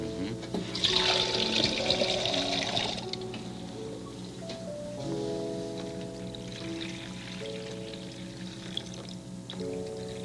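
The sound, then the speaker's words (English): Water is poured steadily into the basin of a small fountain for a few seconds with a bright splashing rush, then settles into a quieter trickle and gentle dribbling with a faint steady hum underneath. “Like a fountain already. Think it'll need some more.”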